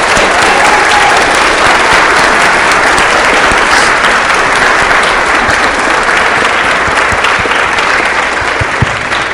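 A large audience claps steadily for several seconds, a dense, loud wash of applause that stays constant throughout with no speech over it.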